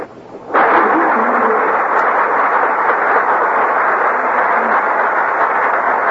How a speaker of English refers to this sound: That applause means our stars have made their appearance on the Gulf Theater stage.